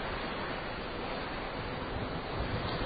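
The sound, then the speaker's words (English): Steady, continuous wash of ocean water with a windy rush, heard from the open deck of a ship, a broad even roar that never breaks into distinct waves, fairly loud with no voices. “But you know, maybe the thing to do is just sit on one of these deck chairs, watch the ocean go by, and do our radio show.”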